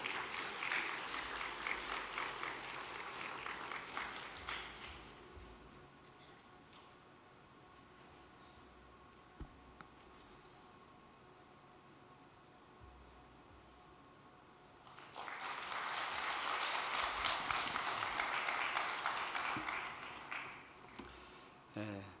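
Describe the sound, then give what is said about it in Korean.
Audience applause welcoming the next speaker in two loud bursts, a dense crackle of clapping for about five seconds, a quieter stretch, then a second swell of clapping that fades out near the end. “큰 박수로 맞이해 주시기 바랍니다.”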